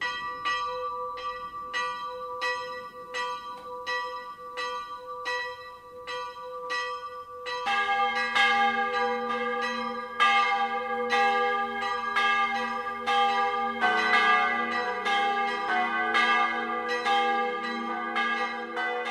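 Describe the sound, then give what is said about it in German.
Church bells of the branch church of St. Valentin in Ruhpolding-Zell, Traunstein district, Germany, ring the 12 o'clock midday peal: a single bell strikes in even rhythm before more bells join around eight seconds in, building into a full, resonant peal with overlapping strikes and long ringing tones. “Das Mittagsläuten kommt heute aus der Filialkirche zum heiligen Valentin in Ruppolding-Zell.”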